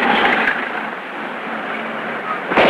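A loud, dense burst of rapid automatic machine-gun fire from the side of a passing dairy truck, with a rough, crackling roar, swelling again into sharp rattling shots at the end, with a faint voice underneath.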